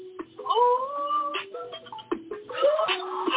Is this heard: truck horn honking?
no